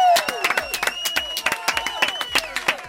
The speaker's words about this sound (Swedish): Applåder!